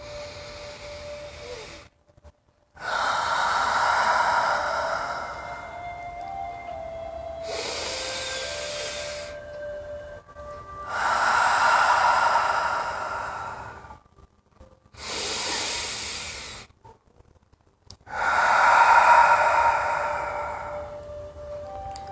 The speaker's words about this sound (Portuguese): Convido você a puxar três respirações profundas. Vamos lá?